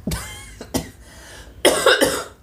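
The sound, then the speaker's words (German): Several harsh coughs, two quick ones followed by a louder pair, with no talking around them. “Ich musste gerade mal husten.”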